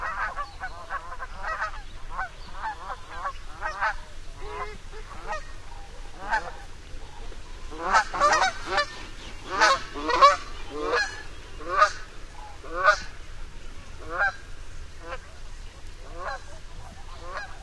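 A pair of Canada geese honk repeatedly on the still water of a quiet pond in the western United States, a loose series of nasal calls that grows busier and louder midway as the calls overlap, over a low steady background hum.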